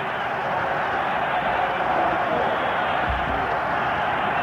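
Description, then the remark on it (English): A large football stadium crowd roars and yells in support of the Minnesota Vikings defense, a steady, dense wall of noise that holds at an even, loud level throughout, with no single voice standing out. “The crowd yells its support to the Viking defense as Gabriel faces them.”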